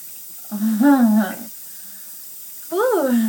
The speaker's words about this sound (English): Just the shower head's gonna make me come.